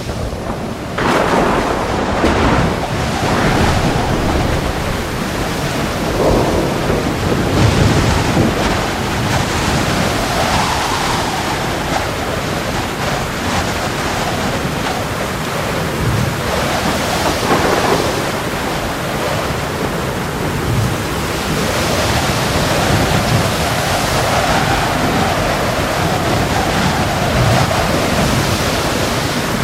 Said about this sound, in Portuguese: E durante 13 dias fomos singrando a muito custo, soprados por ventos de oeste e mal providos de refrescos, quando à altura das minas de Conchinacau nos colheu um tufão, tão desabalado em vento, chuva e bruma, que parecia coisa infernal.